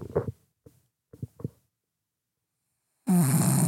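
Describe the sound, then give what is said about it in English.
Low, rumbling snores come in a few short, choppy snorts, then a pause before a sudden loud, raspy burst of sound. “is snoring so loud.”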